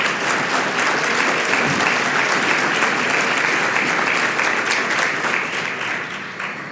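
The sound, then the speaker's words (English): Sustained audience applause during a speech, a dense, steady wash of many hands clapping at a fairly loud level, holding for several seconds before easing off slightly at the end. “Had I known this was going to be a fireside chat, I would have cut this shorter, but I will give you something to clap at later, okay?”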